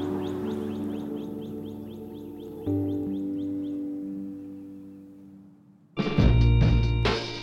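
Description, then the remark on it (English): Faint, rapid bird chirps in the woods repeat in a quick series at the start, set against a steady low droning hum that continues throughout, before a loud, harsh burst of noise near the end. “And right now, you can hear all the birds chirping and just normal nature sounds.”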